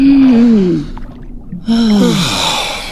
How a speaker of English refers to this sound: Relax. Take a deep breath.